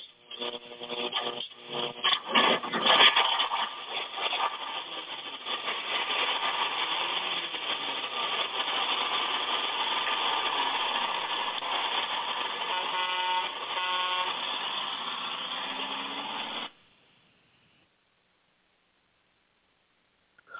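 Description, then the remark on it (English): The engine of the Six Eyes Gospel Bus idles with a steady rumble while a horn honks several times near the start, then the engine noise continues for a while before cutting off abruptly. “who do we got with us tonight on the old gospel bus?”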